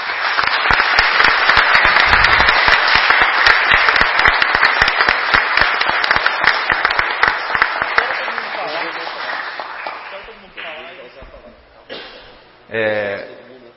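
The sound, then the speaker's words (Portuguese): Sustained audience applause fills a city council chamber for about ten seconds, dense and steady before thinning out, followed by a few scattered voices talking. “Eu gostaria de quebrar o protocolo, presidente, pedir uma salva de palmas para todos, mais uma vez.”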